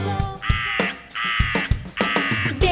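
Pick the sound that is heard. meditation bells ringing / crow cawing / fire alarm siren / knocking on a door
crow cawing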